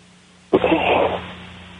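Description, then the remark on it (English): A single sharp sneeze bursts out abruptly and loud, then trails off into a brief breathy tail before quiet returns. “I had a sneeze there”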